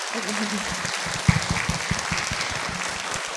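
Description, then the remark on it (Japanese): An audience in a large hall applauds the students and others who performed, steadily, dense overlapping claps forming a continuous patter with a few sharper individual claps standing out, sustained at even loudness throughout. “まず今日出演してくださった生徒さん、その他の皆さんにもう一度盛大な拍手をお願いします。”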